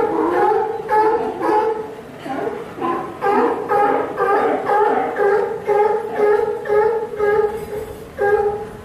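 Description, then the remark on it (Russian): A chorus of sea lions barking continuously at the end of a pier near a boardwalk, their hoarse, honking calls overlapping in a loud, steady stream, with many animals calling at once. “Вы слышите, как кричат морские львы?”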